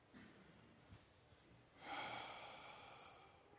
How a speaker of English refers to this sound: So everybody take a deep breath.